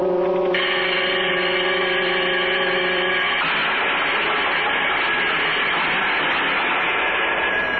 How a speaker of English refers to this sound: The bell. It jars you, huh? Well, it's awful loud. You'll get used to it. Everything's loud in here. Bells, whistles, the cell doors.